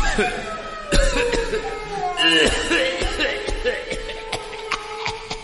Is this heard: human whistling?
no